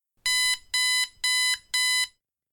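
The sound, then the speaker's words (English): A digital alarm clock beeps four times in a steady, evenly spaced rhythm, each tone bright, buzzy and fairly loud, with no talking around it. “In the 1980s, he got his first digital alarm clock.”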